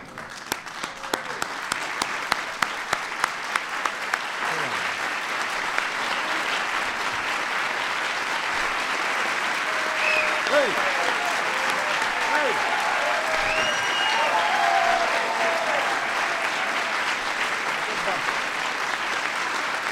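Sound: audience standing ovation applause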